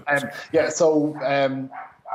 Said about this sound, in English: And sorry, my dog is barking in the background. What's his name? Her name is Juno, and someone has knocked at the door, and she's going crazy.